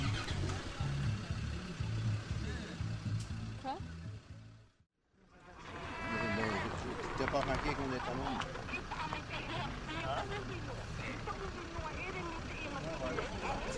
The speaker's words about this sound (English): and there are cars and cars and cars going past. Everyone's driving up the mountain to get away from the tsunami.